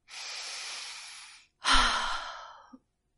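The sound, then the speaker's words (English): A slow, deep breath: a long airy inhale, a brief pause, then a fuller, heavier exhale that trails off like a sigh. No one speaks. “If you are feeling nervous or stressed, a simple thing can help. A deep breath.”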